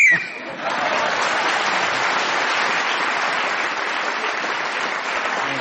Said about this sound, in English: you were speaking as the whistle went, gained an extra point for doing so